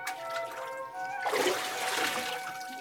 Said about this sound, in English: Breathless, the servants watched as Naaman once more dipped under the water.